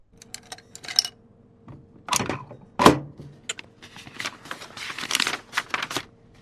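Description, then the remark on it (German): Rustling of a sheet of paper and light clicks and taps of a ballpoint pen as a police inspector picks them up, a quick irregular series of crisp handling noises with no voices. “Kommissar Gandolf nimmt ein Blatt Papier und einen Kugelschreiber.”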